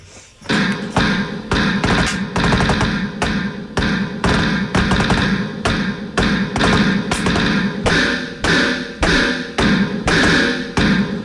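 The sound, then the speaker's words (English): The Darth Vader March from Star Wars plays loudly and steadily, with heavy, evenly spaced accented beats driving a dense, brassy band of sound and no talking over it. “It was Star Wars, the Darth Vader March.”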